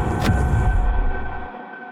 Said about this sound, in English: Inside a train car, some distant part of the soup.